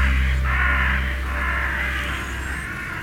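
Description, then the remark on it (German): A huge flock of black crows approaching a town and settling on the rooftops of houses caws continuously, many harsh overlapping calls blending into a loud, dense chorus with a low rumble underneath and no speech. “Ein riesiger Schwarm schwarzer Krähen nähert sich der Stadt und lässt sich auf den Dächern der Häuser nieder.”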